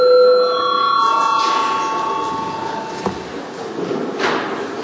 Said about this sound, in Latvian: Lūdzu zvanu, balsosim par 156. Atbildīgās komisijas priekšlikumu.